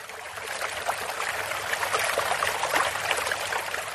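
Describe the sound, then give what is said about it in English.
Water pours steadily onto bamboo, a continuous splashing trickle with small irregular patters and drips layered through it, holding an even moderate loudness for the whole stretch, with no voices. “See, that's water on bamboo, right?”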